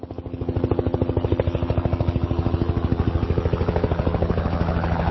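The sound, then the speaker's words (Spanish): A helicopter's rotor thumps in a fast, steady chop over a droning engine, loud, holding constant for several seconds with no voices; the helicopter leaves from a rooftop and flies over a city. “No saldremos en baticoche, batimóvil, pero lo llevo en el helicóptero.”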